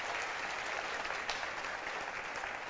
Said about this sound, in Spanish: ¿Se unen conmigo a darle un aplauso de gratitud al Señor?